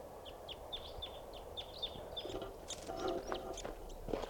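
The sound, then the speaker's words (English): A wild crossbill chitters in flight, giving a quick, irregular series of short, high chirps, fairly faint over steady background noise. Some brief clattering sounds follow, and no one speaks. “And yet, 12:25, there's a wild crossbill coming in.”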